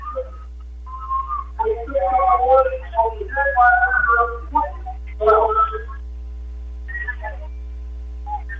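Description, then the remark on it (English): A referee's whistle gives a short, steady blast starting a period of a wrestling match, then a commentator's voice talks over the arena's background murmur. “Off the whistle, Cameron stands up.”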